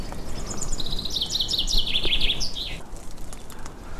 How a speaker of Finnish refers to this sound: Nyt Peippo siellä on. Joo. Tammen oksalla istuu.